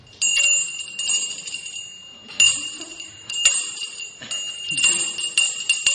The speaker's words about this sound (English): This mudra also resembles the bell, and I'll ask Varuna to ring the bell there.